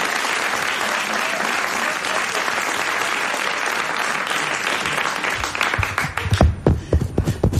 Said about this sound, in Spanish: Ya está con nosotros Berto Romero. Un aplauso para él.